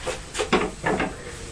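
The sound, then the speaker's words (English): A toy truck, tipped up by a young boy, being banged against a hard surface, five or so quick, irregular clattering knocks, with no talking. “Have you tipped the truck up? Oh no, don't bang it like that.”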